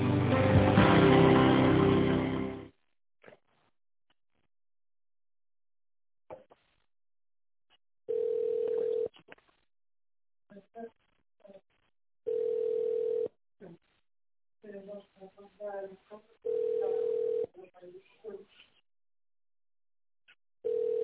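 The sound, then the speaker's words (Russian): A loud burst of noise, then a telephone ringback tone while calling the construction company VMU-2 and waiting for an operator: a steady low beep about a second long, repeating every four seconds, with faint muffled voices murmuring between the rings. “Наберите номер сотрудника в тональном режиме или дождитесь ответа оператора.”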